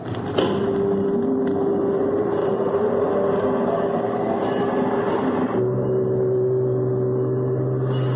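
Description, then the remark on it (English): A loud, sustained fog whistle, a signal for ships, blows a steady mid-pitched tone over a rumbling drone, and partway through a deeper, buzzing note joins in and holds to the end. No one speaks. “Start the whistle, Chief.”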